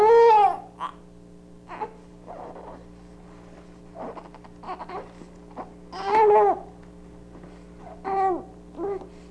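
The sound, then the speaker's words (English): An infant makes a series of short, muffled whimpering noises with lips shut tight, not crying, several separate bursts with quiet pauses between them, fairly loud, over a steady low hum. “Lips were shut tight for that one.”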